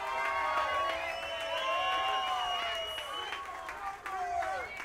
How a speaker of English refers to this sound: Hello, Garage Mahal. Oh, the energetic crowd.